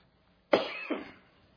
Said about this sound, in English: Boy, I'm having a coughing spell this morning.